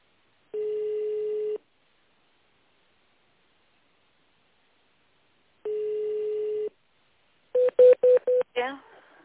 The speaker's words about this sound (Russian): Наберите нужный вам номер в тоновом режиме.